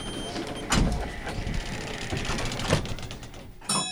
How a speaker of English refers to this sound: The doors swing shut and the electric engine kicks into gear.